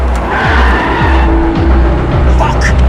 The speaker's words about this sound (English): Motherfucker goes to get into the car, but rolls to the ground as Wheelman tears out of the parking lot.